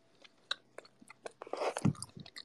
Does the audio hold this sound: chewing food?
yes